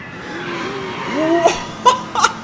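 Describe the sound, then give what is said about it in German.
The final boss's crazy purple car in a cartoonish video game revs up with rising engine tones, then a few sharp skidding squeals and bright impacts as it pulls in, loud and alone. “Was ist das denn? Das verrückte lilafarbene Auto von Bowser.”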